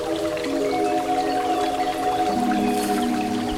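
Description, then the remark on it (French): Gentle water lapping and trickling continuously at a steady, moderate level, with a low sustained hum underneath and no voices. “Le clapotis de l'eau”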